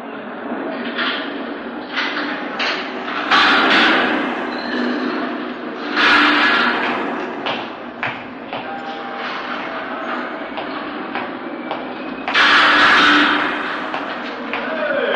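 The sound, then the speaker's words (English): A heavy sliding door being closed to be locked rumbles and grinds several times, with loud metallic thuds and clanks in between, with faint voices in the background. “He wants to lock that door”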